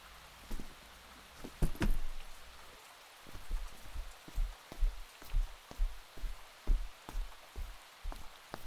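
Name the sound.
heavy rain falling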